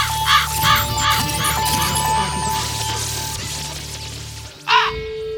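A raven caws in a quick series of three hoarse calls over a steady electronic hum and tones in a jingle, then gives one louder caw just before the end.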